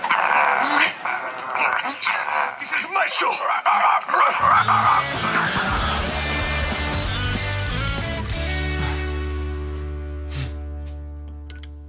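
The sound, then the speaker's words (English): Rapid, high-pitched, loud yapping barks and yips from Umpe, a poodle puppet in a comedy show, fill the first few seconds, with a voice speaking amid them before steady music takes over. “No, bad dog, no.”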